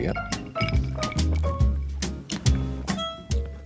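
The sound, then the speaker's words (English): Glasses of non-alcoholic distilled spirit and soda over ice clink together in a toast, several bright ringing taps scattered over a few seconds, mixed with dull thumps and handling noise, with low indistinct voices underneath. “Cheers.”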